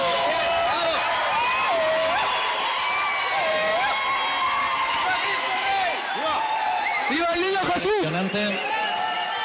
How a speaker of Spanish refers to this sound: Fuerte aplauso.